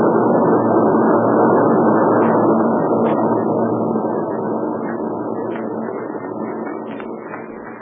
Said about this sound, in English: Meanwhile, let's stay right here where we are until those warbirds get out of sight. We can spot them, but we don't want them to spot us.